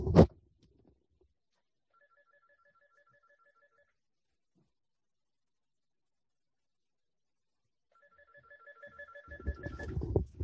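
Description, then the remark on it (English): A phone ringtone plays a short electronic melody, falls silent for several seconds, then rings again, quiet and steady, with rustling handling noise building at the end. “So let's say, excuse me, I'm sorry, my phone is ringing.”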